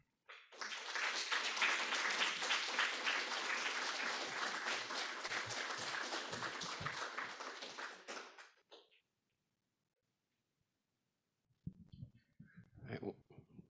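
A crowd applauds a speaker steadily and loudly for about eight seconds before the clapping fades out, followed by a few seconds of quiet and then some brief, low murmurs and rustling.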